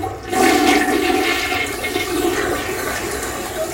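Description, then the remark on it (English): A toilet flushes with a loud, rushing swirl of water that starts abruptly and stays strong for several seconds, with no talking. “12 o'clock flush whistle.”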